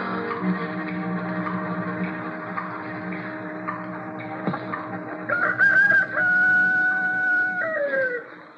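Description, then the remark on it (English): A rooster crows once with a long, drawn-out call that rises and holds before trailing off, loud over a steady background hum. “Oh, what's he got to crow about?”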